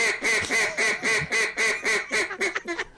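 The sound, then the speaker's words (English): A handheld duck call is demonstrated, blowing loud mallard-style quacks: a steady series of about seven nasal quacks, then a quicker, choppy run of short ones at the end. No talking. “Me demonstrating a few duck calls. Here we go. Mallards.”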